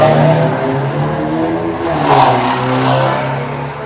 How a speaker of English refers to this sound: Peeling. I don't know if you can hear that through my mic. The car is peeling down the road.